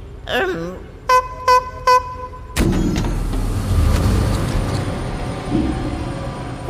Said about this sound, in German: Es ist gleich hinter dieser Tür. Die geht automatisch auf, wenn du dreimal hupst.